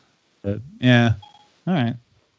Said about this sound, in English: A series, not hey, stop answering me, phone. Well, I said a series, and my phone's like, "Yes, what do you need?"